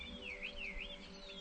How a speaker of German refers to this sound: Ich höre die Vögel zwitschern.